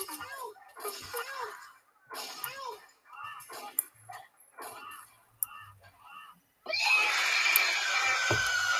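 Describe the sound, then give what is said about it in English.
A video game character who walked off the map screams: a run of short, strained screams repeats about once a second, fairly loud, then cuts off into a sudden sustained blast of harsh, loud noise. “I just walked right off the map and started screaming.”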